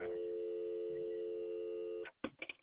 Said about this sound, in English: I have a dial tone. Oh, you do now, huh? Alright, now I'm starting to cook with gas.